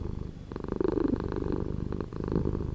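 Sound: domestic cat purring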